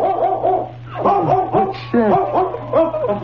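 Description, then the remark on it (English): A mother dog of newborn puppies barks repeatedly, a run of loud, tonal, slightly whiny barks in an uneven rhythm, with a low steady hum underneath and no talking. “It's the mother dog. She followed us.”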